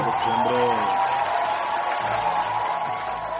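An audience applauds and cheers, a dense, steady wash of clapping with a few voiced whoops near the start, holding loud for a few seconds before easing slightly at the end.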